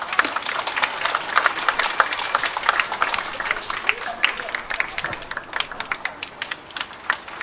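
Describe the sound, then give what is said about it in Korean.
A crowd applauds steadily to welcome a bereaved mother of the Yongsan disaster to speak, many hands clapping in a dense, crackling wash that holds at moderate loudness for several seconds with no pause. “그 우리 유가족 어머니 무척 힘든 하루하루 보내시겠지만 또 오늘 어떤 마음이신지 우리 함께 박수로 청해 듣도록 하겠습니다.”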